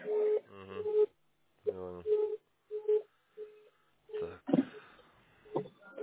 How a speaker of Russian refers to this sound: Вот слышите, какие гудки? Короткие, так. Да? Или... Сейчас, сейчас. Вот слышите?